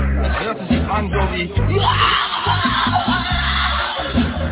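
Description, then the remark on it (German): A voice imitates the desperate scream that Patagonian natives give on waking each morning: a loud, strained wailing cry held for several seconds, rough and wavering in pitch with brief breaks between bursts. “Wie klang dieser Schrei von Desperation, ese grito de desesperación de los indios de Patagonia cuando se despierta.”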